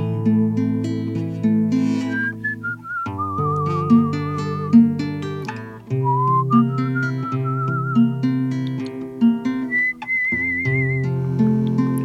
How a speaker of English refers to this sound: All Italian men were great whistlers, too. He taught me how to whistle, Grandpa. Oh, I love that kind of whistling.